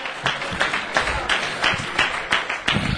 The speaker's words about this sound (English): Oh, somebody clap their hands unto the Lord and give Him some praise.